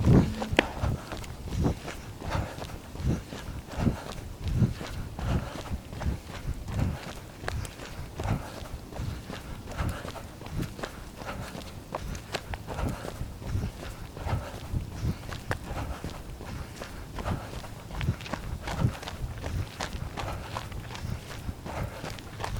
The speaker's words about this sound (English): This running in silence and breathing feels soul-settling to me, especially when I've gotten a mile or two under my belt. I'm coming up on two.